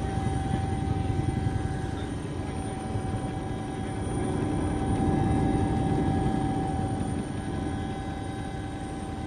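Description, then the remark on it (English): A helicopter's engine whines steadily over a dense, fluttering rotor roar, loud throughout and swelling slightly midway, heard from aboard as it comes in to land on an island in a 30-knot wind; no voices. “He's now almost over it, and I think he's going to come down now and try to get us off the helicopter.”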